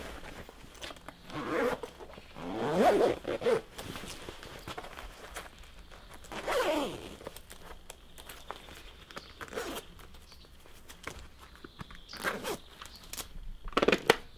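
Zippers on motorcycle gear are pulled in several quick, rasping strokes as a rider dresses before a motorcycle tour, with softer rustling and shuffling of heavy fabric in between; no one speaks.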